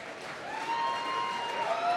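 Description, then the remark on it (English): An audience of 1,200 people claps in a loose, scattered way at the end of a show's set after a low-key song, a steady patter of applause that swells slightly after the start and holds. A faint, thin sustained tone glides underneath. “And I think the sporadic applause from the 1,200 people only reflects the sort of pensive mood.”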